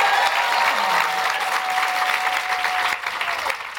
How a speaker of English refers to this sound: Round of applause, please, for Nina.